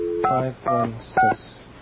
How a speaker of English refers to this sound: If I have this little touch-tone phone in here, you know. Uh-huh. Let's see. 9. Okay, then we get an outside line. Okay, now where should I dial?